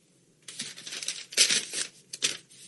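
A sheet of paper being handled, with several crisp rustling and crinkling bursts of uneven length over a few seconds and no voices.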